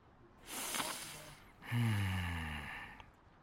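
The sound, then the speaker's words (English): A breathy sniff followed by a longer, louder snorting inhale with a rough nasal honk, heard alone without any talking. “Fine, I'll have a sniff. A sniff is all I ask.”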